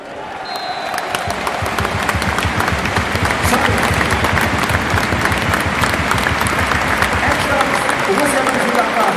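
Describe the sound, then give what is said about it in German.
A large stadium crowd of football fans applauds their team in the closing phase and after the final whistle, dense rhythmic clapping rising quickly and holding loud and sustained throughout, with a general murmur of fans underneath. “Für ihre couragierte und gute Leistung erhält die Mannschaft in der Schlussphase und auch nach dem Abpfiff jede Menge Respekt und jede Menge Applaus von ihren Fans.”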